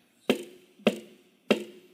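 Three firm knocks on a door, evenly spaced about half a second apart, each a solid thud with a short resonant ring, heard alone without any voices.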